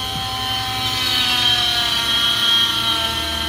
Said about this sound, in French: Donc on va maintenant utiliser la scie oscillante. Ça va faire un petit peu de bruit.